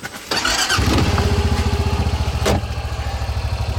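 A truck engine kicks in and runs with a steady, rhythmic low throb and rumble, broken by one brief sharp clunk partway through. No one speaks.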